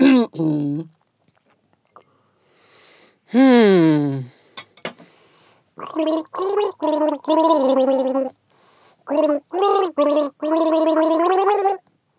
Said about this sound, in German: Was für ein gemeines Gurgeln. Gurgelwurgel. Warum macht man das auch immer so hoch? Du bist so hoch, hast so hoch eingesetzt, oder?